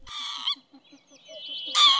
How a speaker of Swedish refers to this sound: En tredje art som, i alla fall vid särskilt högtidliga tillfällen, flyger så det låter på ett karaktäristiskt sätt, det är tofsvipan.